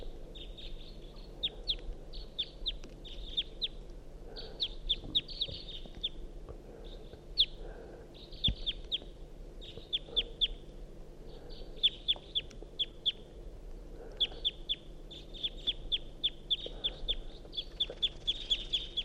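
A wild bird calls over and over in quick bursts of high, chattering chirps, steady through the whole stretch with brief pauses, above a low background hum and no talking.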